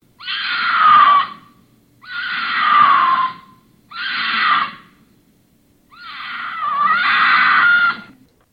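A female wild cat's mating call, the female calling in mates: four loud, raspy, scream-like wails, each sliding downward in pitch, separated by brief pauses, the last one drawn out longest. Alone, with no talking.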